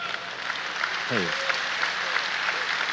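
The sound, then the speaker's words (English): An audience applauds steadily, a dense, even wash of many hands clapping for the whole stretch, with a brief voice call rising faintly through the noise. “You can clap for that.”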